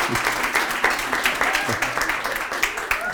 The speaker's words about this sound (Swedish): En liten applåd. Välkommen fram.